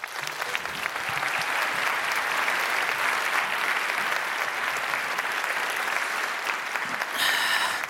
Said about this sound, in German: Einen wunderbaren Applaus bitte für Anne Roth.